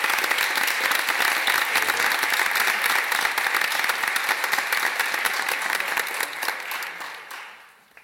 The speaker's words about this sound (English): So please give a round of applause for our teachers of the year.